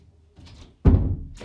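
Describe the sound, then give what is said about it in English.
A door shuts with a single heavy, low thunk that rings on briefly before fading, preceded by a soft rustle of movement. “And then I went to this, I'm shutting my door.”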